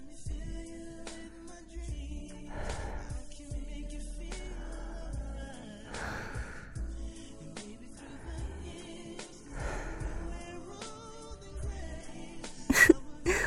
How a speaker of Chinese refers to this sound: 我们现在挨得太近了，你当然能听到我的呼吸声呢，甚至我现在的呼吸都会扑到你脸上呢。